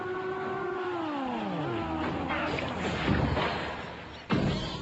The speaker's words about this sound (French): Ah ! Quel bruit fabuleux, quelle ambiance ! Le claquement des soupapes, le crissement des pneus, les vrombissements de turbo et la montée dans les tours. Accrochez-vous au volant, va-va-voum !